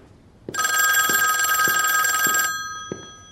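A telephone bell rings in one loud, continuous burst of about two seconds, bright and metallic, with soft thuds like footsteps underneath, before the receiver is picked up; no one speaks.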